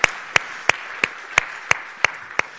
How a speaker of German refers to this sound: Ja, wir können mal einen Applaus geben.